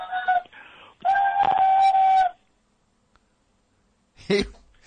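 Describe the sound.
A man's voice imitates a shrill steam whistle: a short steady tone, then a longer, louder sustained blast, followed by a pause and a brief breathy vocal burst. Clear, with no talking.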